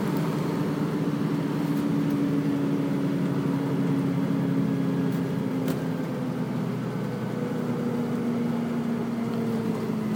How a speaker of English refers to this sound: to run this type of configuration of Routemaster, or a Routemaster with this type of engine, on the 13 near Golders Green, which I've been on a few times, and it always used to freak me out a bit because it was a modern bus sound in a old bus style.